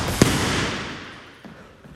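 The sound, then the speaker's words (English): Jab and backhand punches land on a heavy punching bag: one loud, sharp smack with a lingering echo, then two softer hits about a second later, spaced unevenly, with no voices. “Single jab. Moving around that bag, resetting that range. Double jab, backhand.”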